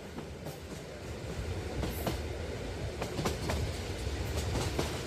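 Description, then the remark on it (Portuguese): A slow train rolls steadily along the tracks, its wheels clicking over rail joints in an even, unhurried rhythm beneath a constant rumble, moderately loud with no voices. “O ritmo suave de um comboio lento relembra-nos a urgência de abrandarmos o nosso.”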